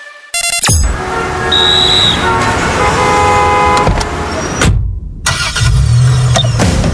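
Busy city street traffic roars loudly and steadily, with several car horns honking in short blasts over the engine rumble, broken by a brief sudden drop-out before the noise resumes.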